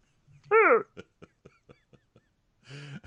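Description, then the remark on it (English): A voice imitates how Heavenly burps, like burping up a beer bubble: one loud, croaky, falling vocal gurgle, followed by a few soft clicks and another low voiced rumble at the end. “That's how she burps.”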